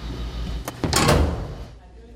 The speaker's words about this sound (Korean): 한 어린이가 자판기 앞에 서 있습니다. 버튼을 누르자 쿵 하는 소리와 함께 작은 입구 앞으로 뭔가가 떨어지는데요.